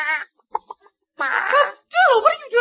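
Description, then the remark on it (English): A chicken named Betty clucking and squawking in short bursts, then longer warbling calls, fairly loud, most likely a human voice imitating the bird. “chicken.”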